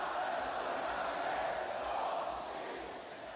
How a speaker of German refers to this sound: Hinein in die Demonstration. Wir sind dabei, wir kämpfen, wir halten zusammen. Ich sehe Gesichter von Frauen, Männern, die ich kenne. Die Leute lesen meine Blätter, sie schreien noch lauter.